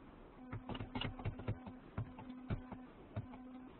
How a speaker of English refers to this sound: Okay, if you hear buzzing, it might be the fan on my laptop, unfortunately. Okay. It's buzzing, yeah.